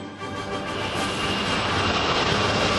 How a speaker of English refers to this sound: Hold on. What's that? In the sky. It's a bird. It's a plane. No, it's a jet.